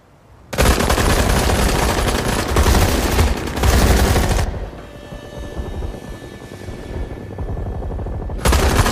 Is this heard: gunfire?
yes